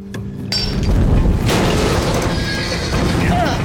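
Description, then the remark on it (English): A horse whinnies loudly over a dense, rumbling commotion, with clattering hoofbeats and scattered crashes filling the background for the whole few seconds. “Fine, I'll get the dumb horse.”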